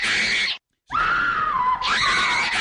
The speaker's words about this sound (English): Security put her in a holding cell and waited for the screaming to stop.